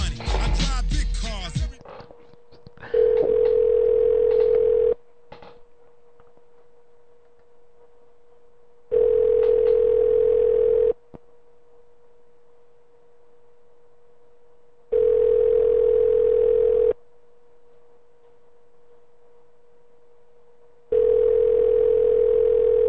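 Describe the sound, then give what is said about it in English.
An outgoing call's ringback tone over a phone line: a steady, buzzy tone repeats four times, each about two seconds long with roughly four seconds of quiet between, after a brief noisy clatter. “I hesitate to get this bitch to pick up the phone.”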